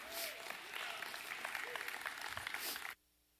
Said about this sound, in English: Y'all come give with a big round of applause today in Jesus' name.